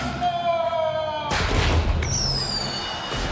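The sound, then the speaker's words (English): A high descending whistle gives way to a loud burst and dense crackling, then another whistling shriek rises over continuing pops as firecrackers put in a cannon go off in quick succession. “Someone put firecrackers in the cannon.”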